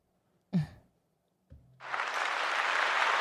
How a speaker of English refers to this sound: I'm going to throw a little applause button for you.